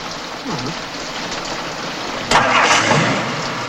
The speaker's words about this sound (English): Ah, spell cast, car turns on and off they go.